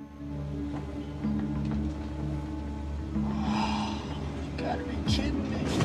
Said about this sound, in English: Ryan's cab is stuck in traffic.